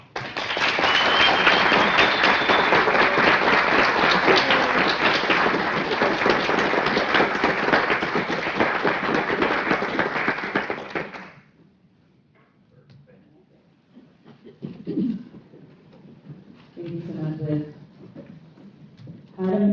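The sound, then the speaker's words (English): Loud, sustained applause with cheering from a group of department colleagues, recognizing an employee for 15 years of service to the town of Mount Pleasant, lasting about eleven seconds before cutting off abruptly, followed by scattered quieter sounds and the start of talking. “And you can see she's got a huge cheering group over here from our department.”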